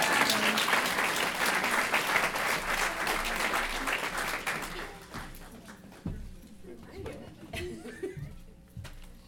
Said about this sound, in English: so you're going to keep having to clap, because otherwise it's just going to be awkward.